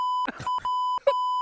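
censor bleep tone

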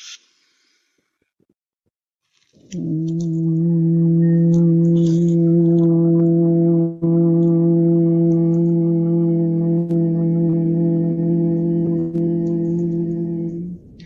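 group humming on exhale

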